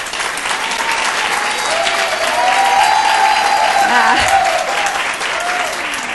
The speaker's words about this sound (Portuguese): E só para a gente fazer melhor essa interlocução, eu gostaria de identificar um pouco aqui o nosso público. E para isso, eu peço que bata palmas às mulheres presentes.